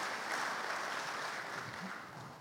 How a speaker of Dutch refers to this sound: Hier, toch ook een heel aantal. Prachtig mooi. Ja, geef ze applaus.